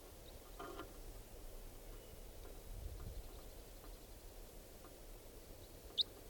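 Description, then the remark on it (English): A single brief, high-pitched chirp from a wild type 4 bird, which looks like a juvenile or adult female, rings out near the end at about 7 o'clock, standing clear above a quiet outdoor background of low, steady rumble. No one speaks. “It's about 7 o'clock, and there's a wild type 4 bird here.”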